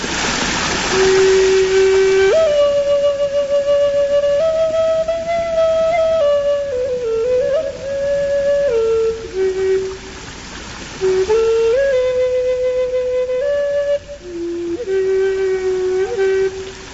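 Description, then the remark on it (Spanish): A flute plays a slow, breathy melody of long held notes in two phrases with a brief pause between, over the steady, continuous rush of the waterfall at the source of the Cuervo river, near Tragacete. “El sonido de la cascada del río Cuervo, de fondo, y tú tocando la...”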